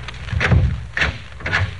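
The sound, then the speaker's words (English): A man opens a door at the end of a long hotel corridor, with a low rumbling thud and three short rattling clicks of the latch and hinges spread over about two seconds. No one speaks. “Then, on reaching the end of the corridor, he stopped and opened the door.”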